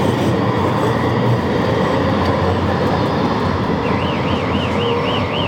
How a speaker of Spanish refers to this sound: Hostia, cómo suena ese coche.